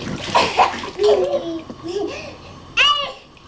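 A quick, splashy pour as a child dumps water from a container onto another child's head in a bathtub, followed by a small child babbling and vocalizing, echoey.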